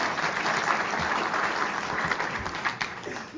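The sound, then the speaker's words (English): A crowd, including people in the general aviation industry, claps steadily throughout, a dense, even wash of applause at moderate loudness with no voices rising above it. “And for those in the industry, give yourself an applause.”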